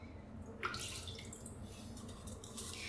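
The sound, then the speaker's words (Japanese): About 100 ml of orange-tinted urine is poured from a cup down a drain in a shower, a steady splashing and trickling that starts abruptly after a brief pause and keeps running to the end, with no voices. “じゃあコップの中のおしっこ流して、シャワーで流して、最後に感想言ってから終わりにしようと思います。”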